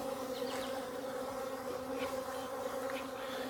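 A steady, dense buzzing of many honeybees at an open hive fills the whole stretch, a constant droning hum with occasional individual wingbeats rising briefly above it, fairly loud, with no voices.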